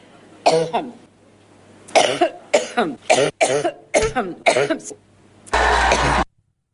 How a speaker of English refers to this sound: Well, Hillary, she can no longer answer any questions, folks. I'm sorry. She's had a wicked coughing spell.